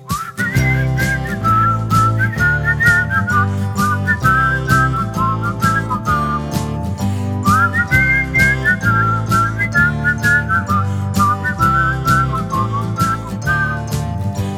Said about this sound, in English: Let's keep the song going by whistling.